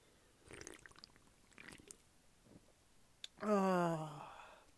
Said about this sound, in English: So I'm sipping on this Stella Artois, you know. I'm loving it. You know, so let's have a drink together and reminisce on everyone else's experiences. We might end up remembering a few of our own. I don't know. Let me just take a little sippy sip sip.